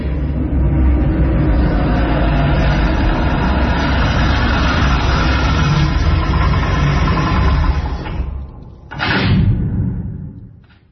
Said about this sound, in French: Il y a eu un bruit de voiture.